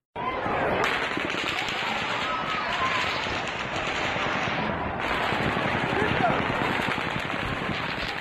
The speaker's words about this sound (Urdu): لاس Vegas میں واقع مینڈیلے بے ہوٹل کی 32 منزل سے باہر منعقد ہونے والے میوزک فیسٹیول میں شریک افراد پر اندھا دھند فائرنگ کے واقعے